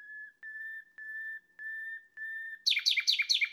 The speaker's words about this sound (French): Ce genre de crescendo flûté est vraiment typique du rossignol. Et que dire de ce chant formidable? Déjà, c'est énergique, vigoureux, puissant. Le rossignol s'entend à plus d'un kilomètre. Et puis c'est un chant extrêmement varié.